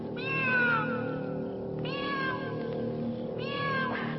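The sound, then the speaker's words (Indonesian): A cat on the roof of a house at night meows three times in a row, each call a drawn-out, wavering wail with strong harmonics, spaced about a second and a half apart over a constant low background hum. “Suara kucing itu terdengar secara tiba-tiba bagaikan makhluk siluman yang muncul dari balik alam gaib.”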